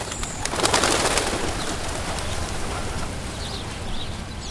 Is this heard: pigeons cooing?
yes